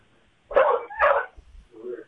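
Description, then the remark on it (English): A dog barks twice in quick succession, sharp, then lets out a softer, lower whine. The barks are loud against an otherwise quiet background. “She got a baby and a dog.”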